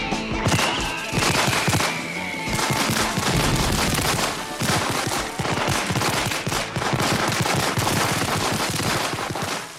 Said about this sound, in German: Schluss das Feuerwerk zum 4. Juli.